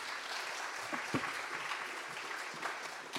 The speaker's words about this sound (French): On va l'applaudir, on va le remercier. Merci.